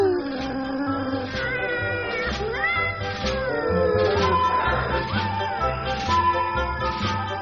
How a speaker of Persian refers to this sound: میاو، منو که میبینی پرخورم، مشغول خواب و خورخوریم، میاو، گرسنشم، تو رو میخورم، میاو، میاو، میاو.